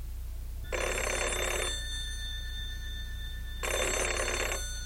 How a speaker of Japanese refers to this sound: あ、また電話だ。過去からかな。